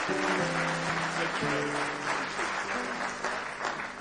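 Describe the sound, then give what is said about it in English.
An audience at a church service claps together in praise of God, a dense, steady wash of applause lasting several seconds, with sustained organ chords ringing underneath. “Give Him one more hand clap of praise if you love Him with all your heart.”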